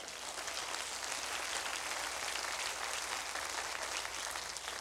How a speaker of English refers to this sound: Somebody ought to clap right there.